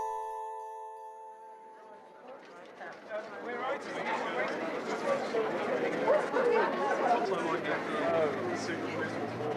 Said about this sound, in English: We're standing outside the Piccadilly Theatre in Denman Street in London's West End. There's the usual theatre crowd gathered and a group of beautiful men in dinner jackets and bow ties, middle-aged women wearing posh frocks, and some boyish lesbians